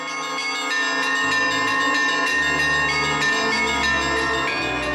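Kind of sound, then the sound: signal or alarm, church bells ringing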